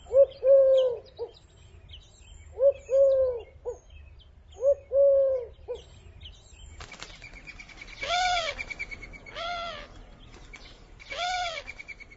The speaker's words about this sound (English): Now listen to the Eurasian collar dove.